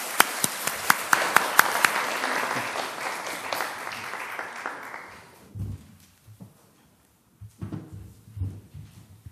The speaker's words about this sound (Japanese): 祝福の拍手をよろしくお願いします。